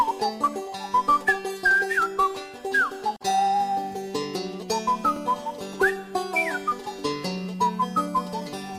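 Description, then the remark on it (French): A bright whistled tune of quick rising and falling notes with occasional slides, played over a steady, sustained musical accompaniment at moderate volume, with no talking. “C'est une chanson pour les oiseaux, dit-il. » Et il siffle à son tour.”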